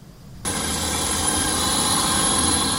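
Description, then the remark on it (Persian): After a brief quiet moment, a delivery drone's loud, steady whirring buzz with a thin high-pitched whine kicks in abruptly and holds constant, with no voices. The drone belongs to Irish company Manna's drone delivery service in the small town of Balbriggan, 30 km north of Dublin, Ireland. “تحویل کالا با پهپادها دیگر یک داستان علمی تخیلی نیست.”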